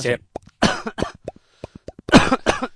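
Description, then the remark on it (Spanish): A few loud, harsh coughs burst out into microphones, saturating them, separated by short clicking and popping mouth sounds, with a brief final cough fading at the end. “Además, estaba intentando hacer el ruido del pez y lo he eclipsado tu tos.”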